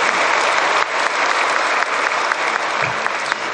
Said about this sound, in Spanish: cuyos colegas con los que trabajamos estos 10 meses están aquí en el auditorio, muchos de ellos aquí presentes, y también les pido un aplauso por el trabajo que hicieron en estos meses.